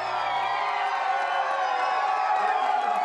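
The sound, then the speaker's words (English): A large crowd in Donegal, Ireland, cheers steadily ahead of Sunday's All-Ireland final, a dense wall of voices with scattered whoops and shouts rising above it, staying loud and unbroken throughout. “Well, let's see if they're still cheering on Sunday evening.”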